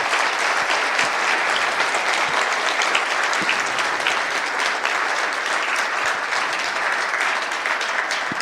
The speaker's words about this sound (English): So, a big round of applause for our sponsors. Thank you very much.